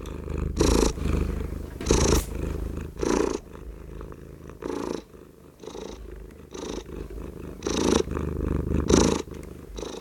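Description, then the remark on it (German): A domestic cat, the fat tomcat Bolle, purrs steadily, the rumbling swelling in rhythmic surges roughly once a second as it breathes in and out, with no voices present. “der Kater von Else und was sein Schnurren und Miauen”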